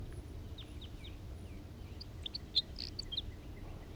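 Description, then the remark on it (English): A male bird sings a loose series of short, high-pitched chirps and whistled notes, fairly faint, over a steady low background rumble, with no voices. “There's that male singing.”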